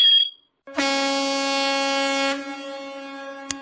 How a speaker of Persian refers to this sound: هر کی هم خواب بود الان دیگه بیدار شد با این بوقی که من زدم.